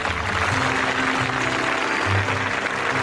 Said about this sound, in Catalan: I tothom va tornar esclatant aplaudiments de felicitat.